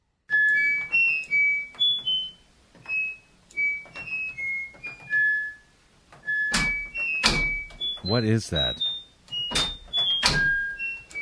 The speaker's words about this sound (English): the washer and dryer play different notes when you press the buttons